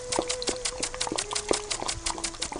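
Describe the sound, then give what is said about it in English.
A lawn sprinkler sprays water in quick, regular bursts, a steady ticking hiss repeating several times a second, with a faint steady tone running underneath and no voices. “Let's give him a little water from that sprinkler. That's the sound we were looking for, that sprinkler.”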